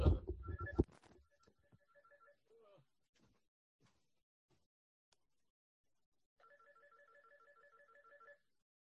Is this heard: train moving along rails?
no